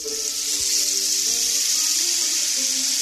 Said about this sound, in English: A rain stick that originated with the Aztecs.